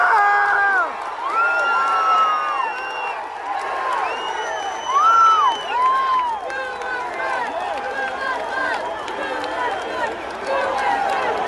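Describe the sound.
A crowd cheers and shouts steadily for about ten seconds, many voices overlapping in loud, rising and falling yells, with a few louder surges partway through.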